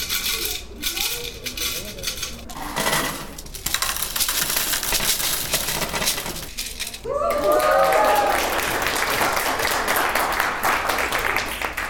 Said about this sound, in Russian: Этой осенью она началась с символической стеклянной копилки в виде маленькой свиньи, из которой звонкую мелочь пересыпали прямо в фигурку ангела.